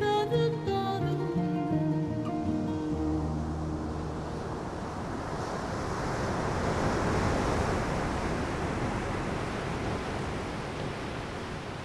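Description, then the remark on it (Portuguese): A steady, rushing wash of ocean waves breaking on the shore of the sea at Sagres fills the scene, rising and falling gently, while a brief musical tone fades out at the very start. “Com os olhos postos no mar de Sagres”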